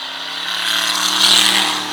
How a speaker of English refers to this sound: So these are all racers? Yeah, these are racers, man. These are stock cars.